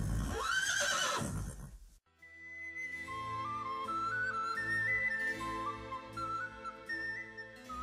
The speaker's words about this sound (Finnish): Ja niin hevoset kirmaavat yhdessä niitylle.